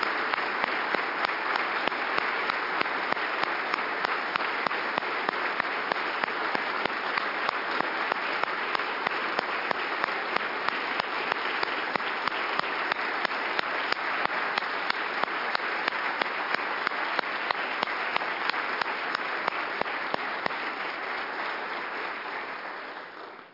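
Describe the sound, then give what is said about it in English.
Sustained applause from a large group at a state legislature after memorial HJM 8 was adopted, a dense steady patter of many hands clapping for over twenty seconds before tapering off at the end, with no voices over it. “As you can tell from the applause, your contribution to our country, to our communities, to our state, is truly honored, and we appreciate having had the opportunity to take this memorial today.”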